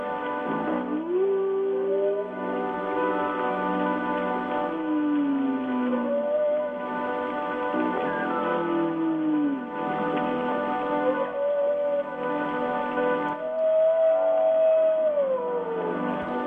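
Long, gliding moans and rising-falling wails of humpback whale song drift over a steady bed of music, the calls repeating every few seconds with a mournful quality.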